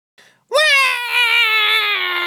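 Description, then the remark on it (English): A baby girl, just woken by shouting, lets out a loud, sustained wail right after a brief soft noise, the high piercing cry holding steady with no pause for breath. “Now look what you did. You woke the baby.”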